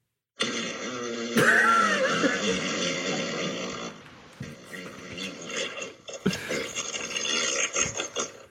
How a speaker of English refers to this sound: Try asking me for a long fart. Or say random. Long fart. Here comes a long fart.